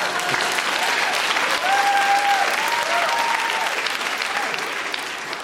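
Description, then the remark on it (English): An audience breaks into sustained applause, a dense, steady wash of clapping that holds at an even loudness throughout, with a few faint whistle-like tones rising over it. “And then it says, pause for applause.”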